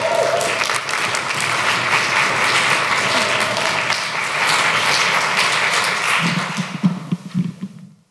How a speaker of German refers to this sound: Trampelt, klatscht, gebt alles, was ihr könnt, klatscht alles aneinander